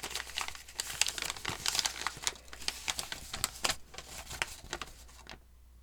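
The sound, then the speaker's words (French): A sheet of A4 paper is handled and crinkled, with irregular rustling and crackling bursts that continue steadily before stopping abruptly near the end. “Tu étais obligé de prendre une feuille A4 pour écrire une phrase qui se résume par « Dis-moi où trouver le fournisseur des prédateurs ?»”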